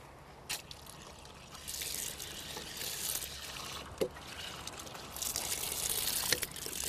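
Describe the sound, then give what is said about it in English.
Water runs from a tap that supplies drinking water only, not water for ablutions, in a steady, hissing trickle that swells and ebbs, with a few faint clicks and knocks along the way; fairly quiet, no talking. “Yeah, this drink is water. Drinking water, yeah.”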